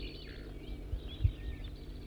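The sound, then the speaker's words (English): Faint, thin, high-pitched song of a wild bird sitting in a small white pine sapling about 25 meters east of a net enclosure: short whistled phrases and a wavering trill, set against a low rumbling background with a couple of soft thumps. No voices. “Now 4-3 singing, and I'm pointed in the direction of the wild bird, who's just sitting in a small white pine sapling here about 25 meters from the net to the east.”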